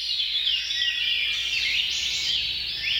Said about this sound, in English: While they're still working on understanding why, it's possible that hearing birds singing makes people feel like they're in a safe environment